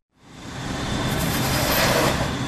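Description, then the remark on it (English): Loud, steady industrial roar of heavy diesel engines, drilling equipment and large vehicles at a well drilling site for a carbon storage research project, swelling up quickly and holding a dense, continuous rumble with a faint high whine on top. “A well drilling site is nothing if not very loud, with heavy drilling equipment, large vehicles, and diesel engines.”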